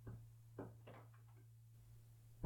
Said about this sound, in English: As he heard the door open, his heart raced.